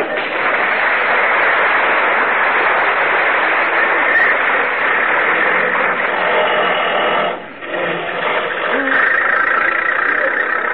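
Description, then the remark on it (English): A tractor engine runs steadily and loudly throughout as a man handles the tractor, a dense rattling drone that briefly dips in strength about two-thirds of the way through before roaring on again. “Look at the man handle that tractor.”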